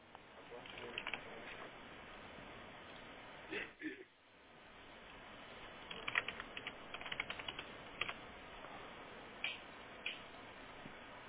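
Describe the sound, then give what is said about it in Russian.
Steady typing on a computer keyboard, with quick irregular clicks and occasional sharper key taps, runs through the whole stretch with a brief pause midway as someone enters a customer's card number and data in their personal account. “Я с вашего личного кабинета все это вожу, ваши данные.”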